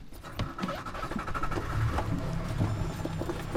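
A boat motor, started by the boatman, rumbles with a steady, raspy mechanical drone, running at an even level from start to finish with no talking over it.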